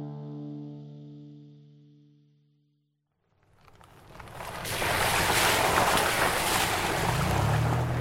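A sustained musical tone fades out, then a boat's loud, steady roar of engine and rushing water builds as it moves over ocean waves, with wind buffeting throughout.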